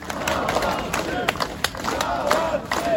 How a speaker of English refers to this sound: Three men walk out of a large grey metal door, smiling shyly as they're greeted by the crowd outside the jail.